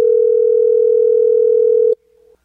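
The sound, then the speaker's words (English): A loud, steady telephone dial tone drones for about two seconds after the person called hangs up on a call from the radio station 106.5 The End, then cuts off abruptly, leaving a brief faint tail of the tone. No one speaks. “Well, he just hung up.”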